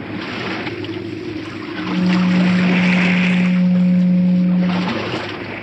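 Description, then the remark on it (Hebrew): Sea waves wash in a continuous, rushing roar. A loud, steady low droning tone rises over the surf for about three seconds in the middle, then fades. “תקשיבו טוב טוב. זהו הים הנורמלי.”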